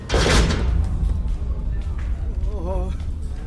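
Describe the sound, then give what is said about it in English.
A heavy door below deck on a ship, covered with several rounds of barbed wire, slams shut and is locked, with a loud, booming impact at the start, followed by a lingering low rumble and faint, muffled sounds that could be voices. “The door was covered with several rounds of barbed wire, and at night it was locked.”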